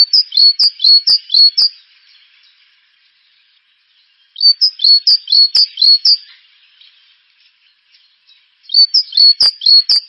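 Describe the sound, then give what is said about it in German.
Great tit song: three bursts of bright, repeated two-note phrases, each lasting about two seconds with quiet pauses between, sung clearly with no talking. “Das ist normalerweise die Kohlmeise als erster Vogel, so immer um Silvester rum.”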